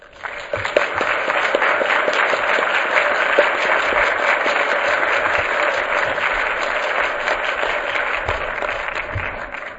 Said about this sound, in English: I'd ask that you give the panel another round of applause.